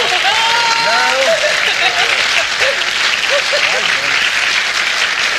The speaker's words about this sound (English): I thank our audience for that spontaneous round of applause